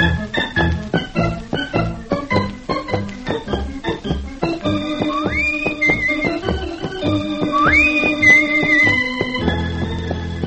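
Brisk instrumental theme music for Rusty Riley with a driving, hoofbeat-like rhythm that evokes a galloping horse, giving way to sustained melody with sliding, swooping high notes. No voices are heard.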